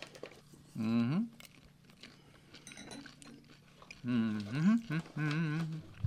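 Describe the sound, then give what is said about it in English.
Someone chews crunchy popcorn while tasting it with wine, with soft, irregular crunches between a few voiced murmurs and hums that rise and fall. “All right, so now let's try this popcorn here.”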